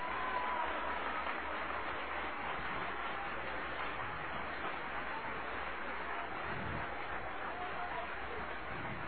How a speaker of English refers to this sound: Oh, applause, applause, applause.